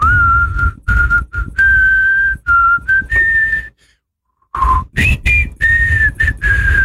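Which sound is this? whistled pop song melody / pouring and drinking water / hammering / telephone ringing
whistled pop song melody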